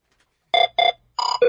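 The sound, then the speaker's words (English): A telephone rings in four short electronic bursts, the first two evenly spaced, then two more in quick succession with a slightly shifting pitch, loud with no voices. “Oh, the phone's ringing again.”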